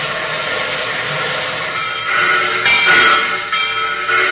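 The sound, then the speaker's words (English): A train arriving at Pennsylvania Station rumbles along with a steady, dense roar of wheels and carriage noise that swells louder partway through, with faint hissing on top and no voices. “Now you're sitting here beside me in a train.”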